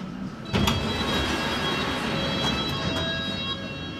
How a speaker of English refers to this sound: Mind the gap between the train and the platform. This is Barbican.